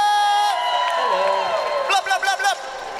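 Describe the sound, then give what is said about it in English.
A large concert crowd cheers and screams loudly and continuously for the house band, a dense wall of voices, with shrill wavering whoops rising above the din near the end. “I want to give a massive, massive cheer. I want to hear you all screaming for the house band”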